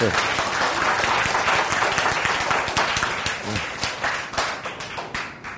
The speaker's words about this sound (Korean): 박수 주십니다. 박수.